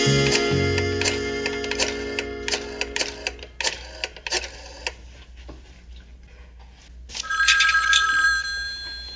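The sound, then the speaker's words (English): An old-style telephone bell rings with a rapid metallic clatter, broken into bursts, then a brighter, sustained ring near the end. Clear, with no voices. “Answering the phone.”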